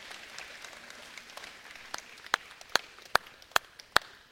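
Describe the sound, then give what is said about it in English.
An audience applauds in a soft, steady patter that thins out into a handful of sharp, scattered claps as the clapping dies away. No one speaks. “It won't be the last time we applaud for you”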